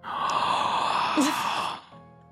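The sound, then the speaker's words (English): A person imitates a loud, drawn-out vocal yawn, a breathy sustained groan lasting about two seconds with a slight pitch wobble, then trailing off abruptly. “I yawn verbally. I'm like, oh. No. This is what it sounded like.”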